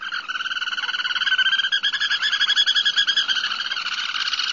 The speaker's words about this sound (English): So if you happen to come up on them, you're likely to see them because they're not being silent. So let's take a listen to the Black Turnstone.